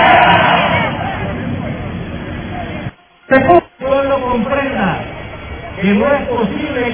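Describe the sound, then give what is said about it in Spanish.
A loud crowd at a street protest in San Salvador, where judges are protesting, shouts and chants together in a dense, ragged roar of "fuera los golpistas", broken by a brief drop around the middle before the massed voices surge back, rising and falling in rhythmic cries. “Esos son los jueces los que estaban protestando, una parte de los jueces donde les gritan, pues, fuera los golpistas y quieren que regrese la situación al estado en que se encontraba el primero de mayo.”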